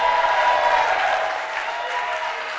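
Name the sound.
audience clapping and shouting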